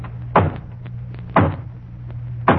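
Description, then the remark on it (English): Three slow, hollow knocks on a front door, spaced about a second apart, each a sharp thud that fades quickly over a low steady hum, with no voices. “And then there's the hollow knock on the front door.”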